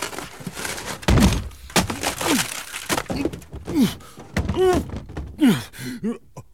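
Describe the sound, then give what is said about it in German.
An elephant smashes in the wooden door of a zoo director's small house with a heavy splintering crash and thud, followed by several loud groaning, moaning vocal sounds and scattered knocks. “Das ist das 14. Mal in diesem Jahr, dass du meine Türe ruinierst.”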